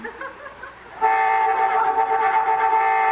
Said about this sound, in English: Boy, I hate honking during smooching.